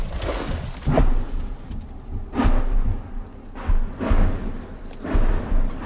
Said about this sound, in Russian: Вот только что по этому участку начала работать артиллерия противника, реактивные системы, был слышен выход с танка